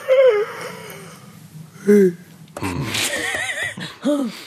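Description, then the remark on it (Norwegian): A person yawns, with several drawn-out, voiced yawns that rise and fall in pitch, ending in a long, groaning stretch mixed with breathy whimpers. “Og ny mulighet til å gjette på hvem som gjesper i morgen tidlig.”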